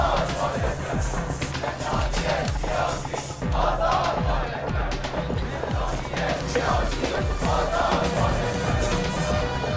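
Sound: crowd of protesters shouting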